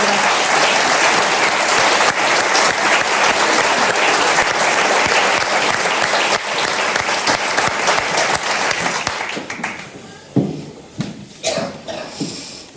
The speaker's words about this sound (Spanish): Pedimos un aplauso para Victoria